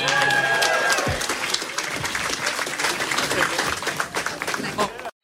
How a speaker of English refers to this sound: Ladies and gentlemen, they'll be right back. We need to clear this, but a round of applause for you guys.